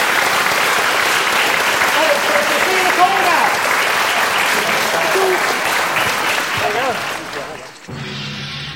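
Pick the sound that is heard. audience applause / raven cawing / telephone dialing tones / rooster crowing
audience applause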